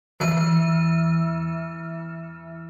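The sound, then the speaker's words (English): A single bell is struck once, with a sharp attack and a rich, metallic tone that rings on and slowly fades, loud, with no voices. “Let's get to the bell.”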